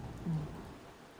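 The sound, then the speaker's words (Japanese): Soft, steady rain falls in a continuous hiss, fairly faint, with no voices and no distinct drops standing out. “じゃあやまないね、これ だね。 傘ないね。”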